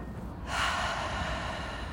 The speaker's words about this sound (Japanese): 息たくさん吸い込んで、